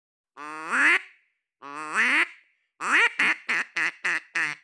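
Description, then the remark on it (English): A duck call blown by John Chambers during an interview mimics quacking: two long, drawn-out quacks followed by a quick run of about six short, sharp quacks, loud and with no talking. “John Chambers actually brought his trusty duck call instrument to our interview.”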